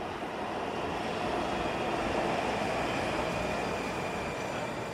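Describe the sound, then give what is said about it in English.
A metro train rumbles steadily as it comes into a station from the Virginia side during the evening peak, a broad continuous roar with faint high-pitched wheel whine, loud throughout, with no voices. “Another one just came in from the other side in Virginia.”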